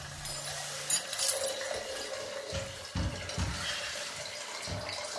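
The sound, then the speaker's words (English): Water is poured into a hot water bottle at Lord Banks's private estate in the evening, a steady gurgle and fill with a few louder glugs and splashes, no voices. “Is that my hot water bottle you're doing there”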